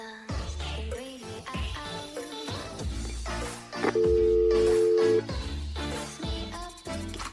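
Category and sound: signal or alarm, phone ringing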